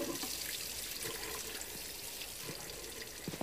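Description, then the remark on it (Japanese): Water runs steadily from a tap in a room, a continuous hissing splash with small gurgles and drips, moderately quiet, with no voices. “水も出るな。”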